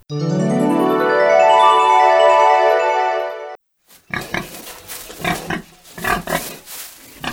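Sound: pig grunting and oinking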